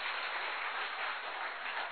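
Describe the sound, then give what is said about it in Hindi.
A crowd applauds with steady, dense clapping that holds an even level throughout the two seconds, a continuous wash of many hands with no voices heard. “ताली बजाने से हार्ट अटैक नहीं होता है।”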